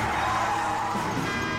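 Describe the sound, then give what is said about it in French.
A Twingo car drives recklessly past with a tense, high-pitched whine like straining tires or a revving engine, loud and steady for a moment with no talking. “Espèce de chauffeur ivrogne. Que les dieux nous viennent en aide. Nous sommes attaqués par des Twingo.”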